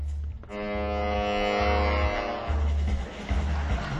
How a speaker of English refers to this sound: Okay, but look, let's pull. Let the train go by. Okay, there's a train. It's going. Let them go by.